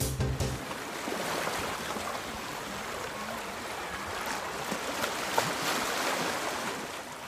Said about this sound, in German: Oh, herrlich. Klingt nach Sommer, nach Urlaub, nach Meer.